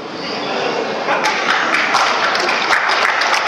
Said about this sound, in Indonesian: Tepuk tangan untuk wanita.